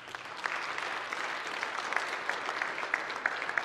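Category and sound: crowd, applause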